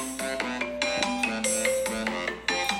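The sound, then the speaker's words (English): Bright bells chime in a quick, repeating pattern over a steady musical backing in a TV commercial, fairly loud, with overlapping ringing tones and no one talking. “Anyways, that was like the commercial to the TV. I don't know why it's so loud, but and then the bells were ringing.”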